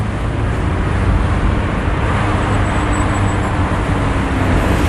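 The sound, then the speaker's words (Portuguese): A motorcycle engine drones steadily, a loud, continuous rumble of road noise that holds the same level throughout, with no voices. “qu'est-ce qu'elle fait cette moto?”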